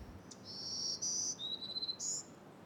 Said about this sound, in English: Black-throated green warblers are small, boisterous birds that are one of the most common summer residents of the coastal spruce fir forest.